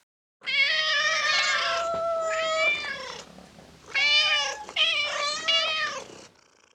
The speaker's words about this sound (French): I can hear cats. J'entends des chats.